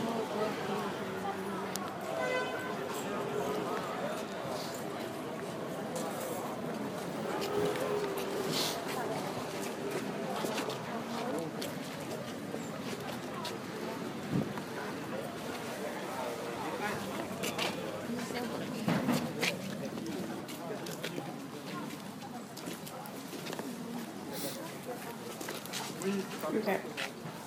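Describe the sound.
Busy outdoor flea market in Paris on a Sunday, with a steady murmur of many voices, scattered footsteps and occasional clatter, plus a dog barking now and then among the many dogs in the crowd.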